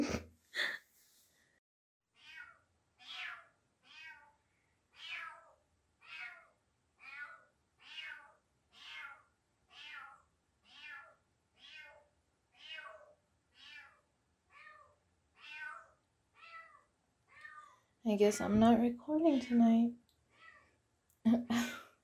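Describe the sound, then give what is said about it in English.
A stray cat meows insistently on a balcony, about twenty clear, fairly loud cries in a steady, evenly spaced rhythm, before a person starts talking near the end. “The cat is like in my balcony, but it's a stray cat and I have no idea how she got there.”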